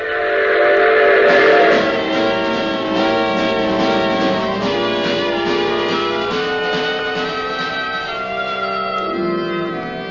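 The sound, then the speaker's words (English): A moving train with its whistle sounding loudly and almost continuously, a rich sustained wail that shifts pitch slightly over a steady rumble of the rails, with no voices. “And if I had any sense, I would have gotten off that train and gone back to Chicago.”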